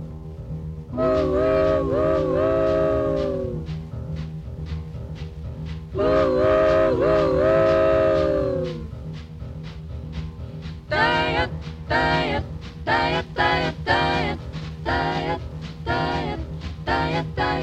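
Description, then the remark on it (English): A 1942 swing-era band recording intro, a hit on the R&B charts: loud, wailing horn chords glide and bend like a train whistle over a steady chugging beat, then short punchy stabs drive forward in a locomotive rhythm. “This was actually a hit on the R&B charts, even though she was white.”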